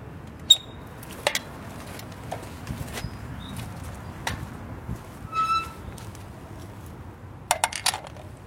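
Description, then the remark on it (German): A cast iron door swings shut with a series of sharp metallic clanks and clicks, one blow leaving a bright, ringing tone, over a steady low rumble with no talking. “So, gusseiserne Tür. Schließen kann er hier, das hört sich auch sehr schön an.”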